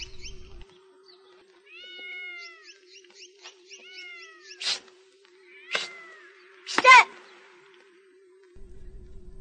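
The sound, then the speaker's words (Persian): A cat in a garden in the courtyard of a boarding complex meows in a run of short, high, wavering cries, then, as a stone is thrown toward it, lets out three harsh, louder bursts like yowls or hisses, all over a faint steady hum. “سنگی به طرف گربه پرت میکنه.”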